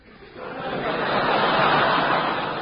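A steady rush of running water swells in after a brief quiet moment and keeps flowing as a continuous, fairly loud hiss to the end, with no voices.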